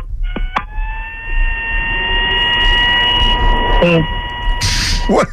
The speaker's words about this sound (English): What? Are you playing the alarms for the Sixers?